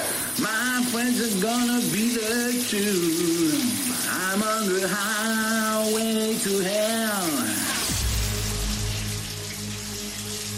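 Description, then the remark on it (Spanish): Shower water runs in a steady hiss throughout, with a voice singing a melody under the shower for most of the time before the water continues alone at the end; played for a who-is-singing quiz on Rock FM radio. “Dime quién es, quién canta bajo la ducha.”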